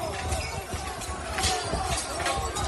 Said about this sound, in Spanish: Todo esto que escuchas corresponde a unas imágenes donde vuelan sillas, donde vuelan mesas, donde vuela vidrio, donde la gente se pelea, en fin. La previa al derbi andaluz dejó esta reyerta multitudinaria en la plaza del Moreal de la capital